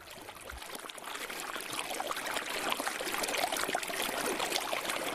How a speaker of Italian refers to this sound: dove sgorga quella che è la prima voce del grande fiume